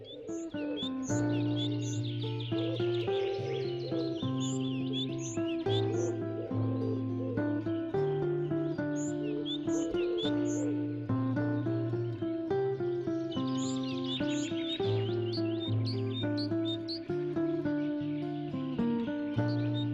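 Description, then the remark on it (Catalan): Small songbirds chirp and twitter in quick, repeated bursts high above a steady, droning low tone that runs continuously underneath, by a lakeshore in the Parc Natural dels Aiguamolls de l'Empordà near Castelló d'Empúries; no one speaks. “Us deixo amb el cant d'aquests mixoners mentre anem passejant per la vora del llac.”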